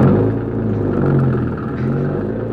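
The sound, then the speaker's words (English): A car engine starts up and runs loud, a steady low rumble with a throaty drone that rises and falls slightly in pitch as the car drives off down a road, with no voices. “Yeah, and there's the car. Start her up and go down the road away.”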